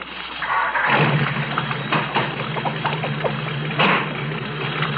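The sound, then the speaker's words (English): A car engine cranks and catches, then settles into a steady, rumbling idle with a low drone throughout, with no one speaking. “Start the car.”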